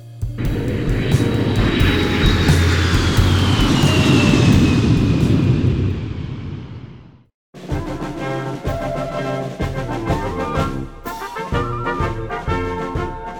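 A jet airplane on a flight to Brisbane roars loudly with a broad, rushing rumble and a high whine that slowly falls in pitch, then fades out after several seconds before music begins.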